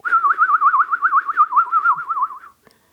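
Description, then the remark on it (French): A blackbird whistles a continuous warbling, trilling tune in the morning for about two and a half seconds, clear, then stops, leaving near silence. “Il mangeait les fruits du genévrier, les graines des pommes de pin, et il sifflait tous les matins.”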